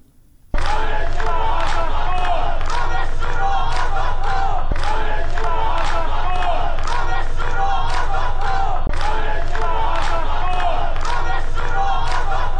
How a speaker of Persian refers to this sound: شعاری رو میشنویم که همین ساعتی پیش منتشر شد.